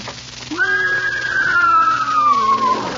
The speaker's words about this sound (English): Bring Leona with you. I don't want a horse in this studio. Don't worry. She's gentle as a lamb.